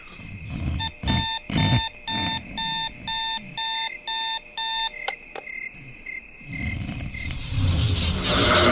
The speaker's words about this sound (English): I could let you know that you probably shouldn't hit the alarm clock anymore. Its red numbers are glowing a little brighter, and I can feel that it's angry. It wants something.